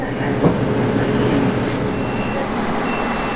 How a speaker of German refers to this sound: Halt am Bahnhof Kehl. Menschen steigen ein und aus.